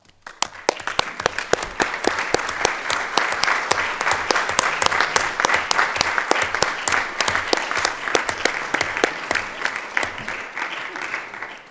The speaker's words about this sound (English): ask them all to stand up so that you can give them a huge round of applause.